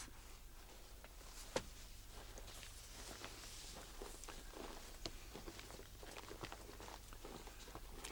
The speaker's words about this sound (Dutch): Heerlijk, hè? Dat stappen door die droge sneeuw.